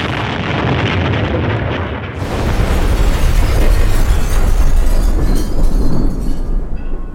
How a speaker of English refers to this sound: It's the 23rd of October, 1993. Two men enter Frizzell's fish shop on the Shankill Road in Belfast. It's shortly after 1 p.m. on a Saturday. People are busy inside and outside doing their shopping. Then suddenly, an explosion.